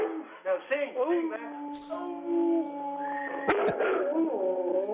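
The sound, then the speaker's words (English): A dog named Max howls along, singing on command, in long, wavering, pitched tones, fairly loud, with human voices mixed in around the drawn-out howls. “Max, sing.”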